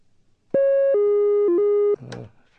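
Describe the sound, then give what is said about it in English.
A loud, buzzy synthesizer note, played legato with the keyboard voltage's rate of change slowed (portamento), holds steady, then glides quickly down in pitch, dips briefly lower and returns, lasting under two seconds before a short noisy burst. “Still sounds like different notes, but now I'll slow down the rate at which the keyboard voltage can change, and we'll hear that we'll actually be playing one note with a gliding pitch.”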